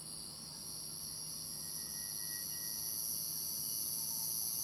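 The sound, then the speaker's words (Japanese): A cicada sings from a tree, a steady, unbroken high-pitched buzz throughout, fairly loud and constant, with no voices or other clear sounds alongside it. “セミだ。”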